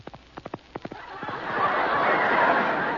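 A quick, uneven run of hollow clip-clop hoofbeats, knocked out with plungers as a sound effect, gives way to a swelling, rushing wash of noise that fills the rest.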